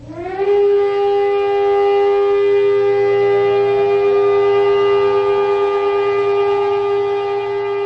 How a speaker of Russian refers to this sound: Двухминутная траурная сирена, прозвучавшая по всей стране в 11 утра по местному времени, стала сигналом к началу целого ряда мероприятий, посвященных Дню поминовения павших в войнах Израиля и в террористических актах.